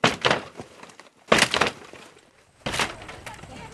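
A door of an empty house is kicked open by Marines on foot patrol in Garmsir: three heavy, loud wooden bangs about a second apart, each followed by a short crackling, splintering rattle that fades out.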